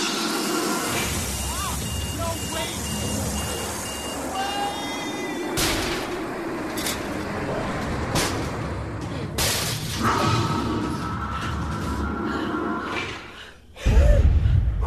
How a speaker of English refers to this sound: Bomb has detonated. The hull is holding.